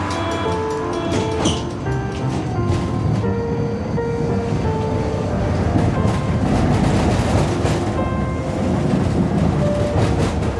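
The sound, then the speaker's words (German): A tram rolls steadily along its tracks in Berlin, a continuous low rumble with whining motor tones and occasional rail clacks throughout, no voices. “So, jetzt sind wir aus der Straßenbahn raus und laufen Richtung Friedhof.”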